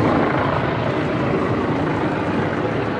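helicopters circling overhead

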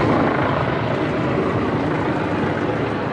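helicopters circling overhead

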